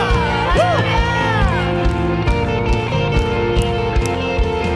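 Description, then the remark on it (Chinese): A church audience cheers and shouts "hallelujah" together during worship, loud and sustained over steady music, with a few voices rising in long rising-and-falling calls above the crowd. “哈利路亚，我们欢呼一下好不好？”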